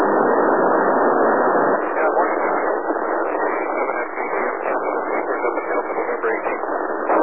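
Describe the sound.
A noisy radio transmission relayed via satellite: a steady, loud wash of narrowband static fills the whole stretch, with a faint, garbled voice buried in the hiss.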